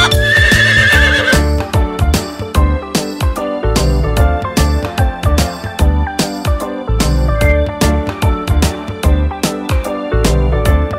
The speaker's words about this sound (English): The horse in the stable goes neigh, neigh, neigh.